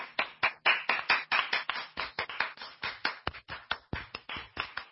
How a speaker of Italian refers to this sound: Evita è la prima ad applaudire, seguita a ruota da altri e poi da una ovazione generale che travolge la sala.